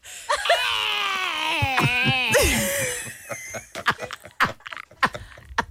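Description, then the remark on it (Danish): A recording of high-pitched, wavering screams runs for about three seconds, the pitch sliding up and down, followed by a string of sharp clicks and short, choppy bursts. “I aner ikke, hvor lang tid det tog at tage skrig.”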